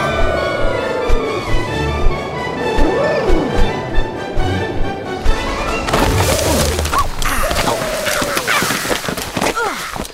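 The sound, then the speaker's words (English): A loud, chaotic crash through the branches of a gum tree, with repeated snapping and thrashing impacts over about ten seconds, mixed with squawking, fowl-like calls and whooshing movement. “I think that was a gum tree we just smashed.”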